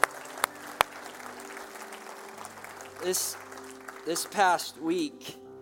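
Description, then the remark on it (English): An audience applauds the girls with a steady wash of clapping and a couple of sharp claps at the start. The applause thins out as a voice begins speaking over the last of it. “So give our girls a big round of applause.”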